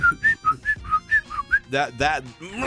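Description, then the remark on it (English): A person whistles a quick, bouncy tune of about eight short notes, imitating a former co-worker's whistling. It ends with two louder, breathier vocal bursts, clear with no background. “But I almost murdered a co-worker once, a former co-worker of both of ours, who would walk through the hallways going...”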